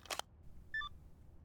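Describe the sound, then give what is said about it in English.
A sharp click, then a brief two-tone electronic beep like a phone keypad press as a phone call is placed. Both are quiet, with no speech, and no ringing follows. “Oh, please don't pick up.”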